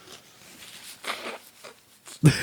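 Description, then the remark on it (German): Someone blowing their nose: a few short, breathy snuffles, then a loud, forceful honking blow at the end. No one speaks. “Nee, ich meine, Entschuldigung, ich muss Nase putzen.”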